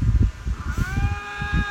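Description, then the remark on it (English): Two lynx face-to-face in the middle of a remote roadway in Ontario, Canada, yowl at each other as they fight: a drawn-out, wavering yowl, high and tonal, rising over low rumbling background noise; fairly loud, with no talking. “There's two lynx face-to-face yelling at each other.”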